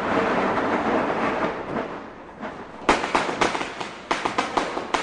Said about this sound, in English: It's after dark in Delhi. Everyone has started letting off their crackers and firecrackers. So now the city is just a great teeming mass of sound and light.